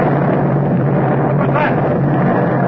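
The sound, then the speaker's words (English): A tube of nitroglycerin explodes near the water with a loud, sustained roar, a dense rumbling blast that stays steady and heavy for a few seconds without fading. “Sounded like an explosion down near the water.”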